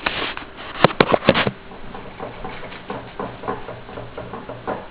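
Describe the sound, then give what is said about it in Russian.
A refrigerator rocks and rattles on its own, recorded on a voice recorder placed on a table beside it: a quick burst of sharp, loud knocks, then a softer, uneven clattering over a steady low hum. No one speaks. “Вот я сейчас кладу диктофон на стол и рядом с холодильником, вот он как раз сейчас шарохается, и вот будет слышно, наверное.”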